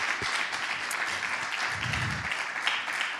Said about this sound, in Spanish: Denle un aplauso al Señor. Acompañe esa gratitud con un aplauso.